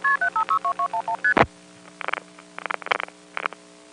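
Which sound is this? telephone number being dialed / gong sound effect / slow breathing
telephone number being dialed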